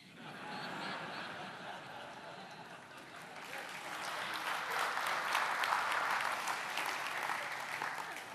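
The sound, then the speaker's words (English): An audience claps steadily, a dense crackle of many hands that swells louder midway, with scattered laughter and chuckles mixed in throughout. “You shouldn't clap.”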